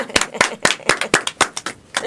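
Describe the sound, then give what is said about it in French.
A small group, the show's team in Beaujolais, applauds themselves, clapping together in a steady, fairly brisk rhythm, about nine sharp claps over a couple of seconds, loud and clear. “Je pense on peut s'applaudir.”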